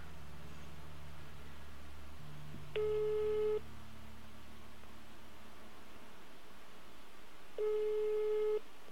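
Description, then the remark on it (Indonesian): A phone ringback tone from a call placed at about 11:06 at night sounds twice, each a steady electronic beep burst of under a second, separated by a long pause over a low background hum, with no answer. “Nih, gue telepon nih.”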